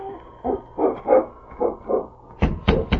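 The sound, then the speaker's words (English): A dog, King, left outside with the dog team, gives a string of short, muffled woofs or whimpers, then lets out three sharp, louder barks in quick succession, with no one talking. “If there's a sick man in there, it's no place for a dog.”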